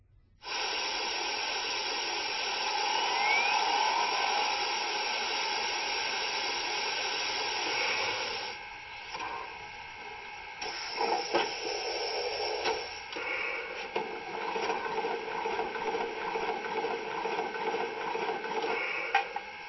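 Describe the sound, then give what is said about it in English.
A steam locomotive, halted at a stop signal, is being steamed up: it hisses loudly and steadily for several seconds, then the steam noise turns rougher and more uneven, with irregular bursts and chuffs. No one speaks. “Let's get her steamed up.”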